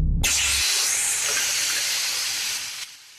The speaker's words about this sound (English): He turns the tap on.